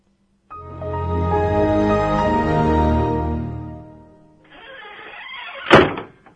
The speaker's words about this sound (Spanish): Ahora os voy a actualizar vuestra base de datos para que estéis al día y desapareceré dramáticamente dando un portazo.